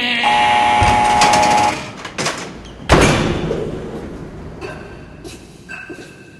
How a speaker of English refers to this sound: Coming onto the tier, it's a heavy steel door, and it opens electrically, which means you hear...